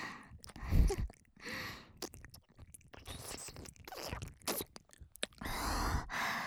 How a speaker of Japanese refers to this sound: もぐもぐして柔らかくなった耳たぶを